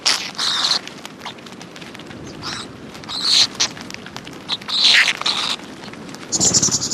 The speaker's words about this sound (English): And what did you think of our unusual migratory parrot? Here's a reminder of the call.